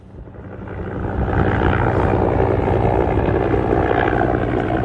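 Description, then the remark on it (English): A helicopter's engine and rotor roar loudly at the Al-Karama airbase on the Jordanian-Israeli border, waiting for a patient to be transferred from an ambulance, building over the first second and a half, then holding as a steady, dense whine and rumble with no voices. “will arrive here by ambulance and be transferred to the helicopter behind me.”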